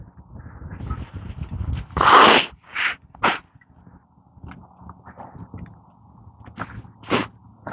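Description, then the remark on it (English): One loud sneeze bursts out suddenly, followed by a few shorter, softer breathy sounds and sniffs against a low, rumbling background hum. “I'm gonna sneeze now.”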